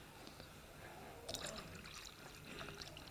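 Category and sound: household object, water being poured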